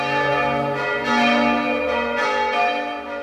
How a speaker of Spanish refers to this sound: Su campanario acogió durante siglos algunas de las campanas que hoy siguen sonando en la torre gótica.